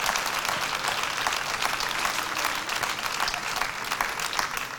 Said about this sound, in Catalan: Amb pas prudent. I als peus de l'escenari. Aplaudiments generals.